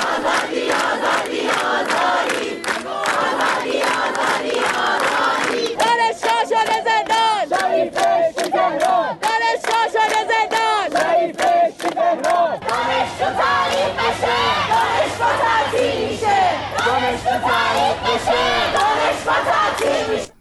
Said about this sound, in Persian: در برخی دانشگاه‌ها از جمله در دانشگاه علامه راهپیمایی اعتراضی و سر دادن شعارها از بامداد سه‌شنبه آغاز شده. دانشجوها تو زندان شریف بهشتی تهران از جمله شعارهایی است که از دانشجویان دانشگاه علامه شنیده می‌شود.